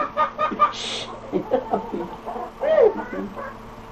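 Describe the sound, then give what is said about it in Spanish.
A chicken clucks in a quick, irregular series of short, throaty notes, with one louder rising squawk near the end and faint background noise underneath. “Ay, gallina.”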